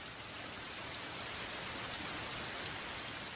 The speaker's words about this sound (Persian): با این بارون نمیشه کاری کرد. فصل بارونم خوبیای خودشو داره. خب مثلا صدای بارون. ببینین صداش چقدر قلب آدم رو آروم میکنه. به نظرتون دلچسب نیست؟